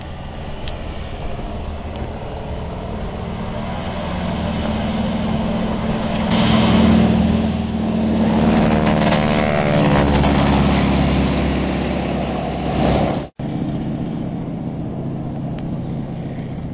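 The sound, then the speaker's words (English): A T-6 propeller airplane engine roars steadily and loudly during takeoff, flown by a man's grandfather, its drone swelling and rising in pitch as it powers up, with a brief sharp dropout near the end. No one speaks. “Here's my grandfather taking off the T6.”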